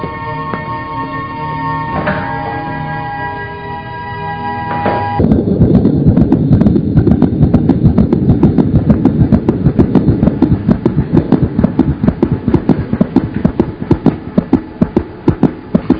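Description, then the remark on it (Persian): A baby's heartbeat on a monitor: rhythmic, whooshing pulses that beat steadily over a rushing, windy background, preceded by a few seconds of steady humming tones. No one speaks. “ببخشید خانم دکتر، صدای چیه؟ قلبشه. پس چرا اینقدر کند میزنه؟”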